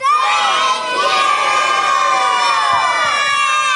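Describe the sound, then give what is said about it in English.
A loud crowd of children in a church shouts "Thank you!" together in unison, a sustained, high-pitched collective yell that fills the space for several seconds without letting up. “So if you have any more yelling energy left, this is the time, okay?”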